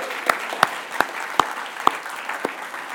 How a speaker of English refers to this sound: I want to give a big clap for Logan.